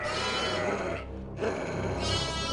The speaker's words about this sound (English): Sheep's bleating filled her ears, followed by harsh and aggressive yells, drowning out guttural barking as she peeked around the small hillock.